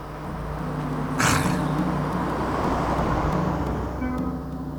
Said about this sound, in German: Ja, der Wagen kommt näher.